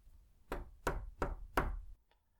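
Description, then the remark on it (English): Four soft, evenly spaced knocks on a wooden doorframe, each a brief hollow tap with a short ring-off, knocked gently at the open door of a sick person's room, followed by a quiet pause with no voices. “Shengwei gently knocked on the doorframe.”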